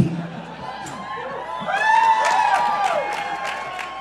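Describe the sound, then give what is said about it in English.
A live crowd claps and cheers as two co-hosts introduce themselves, with whoops and excited shouts rising over the steady applause. The noise swells partway through and stays loud and lively to the end. “Is it because you're waiting until we've both introduced ourselves and then applauding for us both?”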